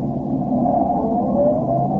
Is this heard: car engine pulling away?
yes